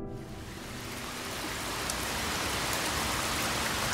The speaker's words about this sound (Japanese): これが梅雨の雨で、これが夏の夕立、これは秋雨です。